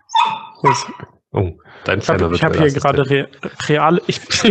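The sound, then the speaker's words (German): A small dog sitting on a person's lap gives a few high-pitched yips and whimpers at the start, then the person starts talking while the dog's sounds fade under the voice. “Es gibt immer noch keinen Hundetracker. Deswegen seht ihr sie jetzt leider nicht, dass sie auf meinem Schoß sitzt.”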